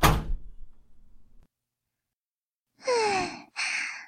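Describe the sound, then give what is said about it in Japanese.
A door swings shut with a solid thud and a brief low rumble that fades out, followed after a pause by two heavy, breathy exhalations. “とりあえず、ドアを閉めますね。”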